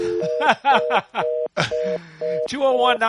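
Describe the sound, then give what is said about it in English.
Telephone dialing tones beep in short steady bursts over a show's call-in phone line, mixed with chattering, laughing voices that nearly drown them out. “Wow, what is going on there? Hello, Ma Bell.”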